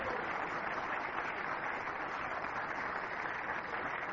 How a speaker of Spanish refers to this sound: Vamos a darle un aplauso al que vive y reina.